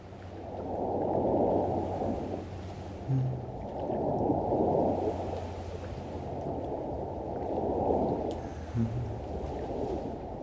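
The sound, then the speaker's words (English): A soft, hollow ocean-like whoosh rises and falls in three slow swells, like a seashell held to the ear, with a low steady hum underneath and no voices. “Listen to the shell.”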